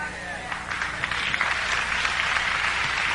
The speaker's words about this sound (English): Y'all still ain't get it. Y'all clapping, but you ain't get it. You sure you got it? You clapping, you get it?